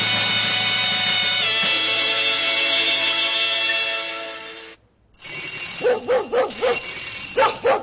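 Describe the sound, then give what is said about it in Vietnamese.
A sustained musical passage fades to a short silence, then a dog named Khiết barks in a quick run of about five or six sharp, excited barks, fairly loud, greeting a familiar visitor at the door. “Ra mở cửa đi, con Khiết nó sủa mừng khách quen đó.”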